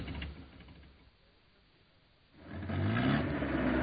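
A car engine drives along in Burlingame, a low rumble that dips quieter for a moment, then revs up louder and rising as the car accelerates, with no voices.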